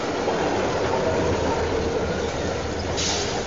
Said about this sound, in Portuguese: A porta do trem que vocês pagaram tá aberta e tá dando bip de que vai fechar pro trem sair.